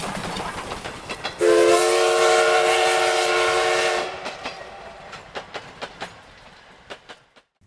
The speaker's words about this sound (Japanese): 僕らの汽車がゴーゴーと音を立てながらひっそりとした荒野を抜けるとき、白い尻尾のウサギたちは慌ててどこかに身を隠した。